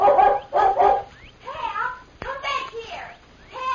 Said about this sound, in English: As soon as they heard the dog barking, the Lone Ranger and Tonto leaped to their feet. A moment later, they saw the dog, a beautiful collie, golden brown with a white chest.